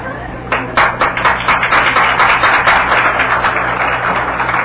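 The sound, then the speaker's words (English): An audience breaks into loud, sustained applause about half a second in, coming from the men after a speaker's address: a dense crackle of many hands clapping that holds steady at full strength to the end, with no one speaking. “The applause came from the men, ladies and gentlemen.”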